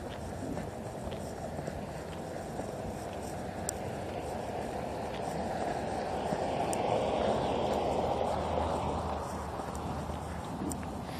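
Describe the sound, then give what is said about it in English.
Trains a couple of miles away, maybe five, rumble as a steady, low outdoor roar that swells gradually toward the middle and then eases slightly, with a light breeze and no voices present. “I can still hear the trains a couple miles away.”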